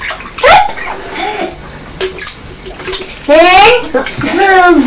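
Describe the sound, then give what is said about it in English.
Bathwater sloshes and bubbles as a young child blows bubbles into it in the bath, mixed with the child's high, wavering vocal noises and giggles over the splashing. “Yes, you're making different bubbles in the bath, aren't you, from Mummy?”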